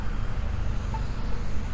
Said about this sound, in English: looks like the perpendicular traffic has the light. They're coming across the railroad track over there to the left. You can probably hear. And that guy made a left turn.